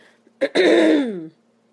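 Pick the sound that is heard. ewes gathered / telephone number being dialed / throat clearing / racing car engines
throat clearing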